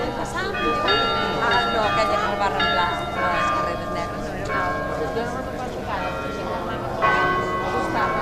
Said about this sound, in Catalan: Unes campanes que han entonat aquesta popular cançó, l'himne oficiós, podem dir, de Mahó